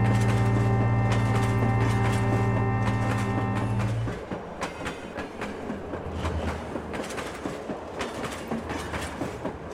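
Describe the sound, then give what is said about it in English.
The Ghan train moving between Rumbalara and the Alice, loud: a deep droning horn-like tone for the first few seconds, then steady rumbling with rhythmic clickety-clack of wheels over rail joints. “Almost objects of interest as the Gan moves between Rumbalara and the Alice.”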